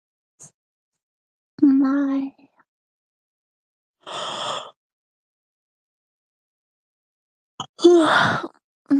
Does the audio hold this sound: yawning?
yes